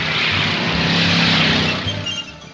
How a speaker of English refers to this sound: At a dusty drag strip, Vince and Sherry watch hot rods on a straightaway. One car speeds across the finish line.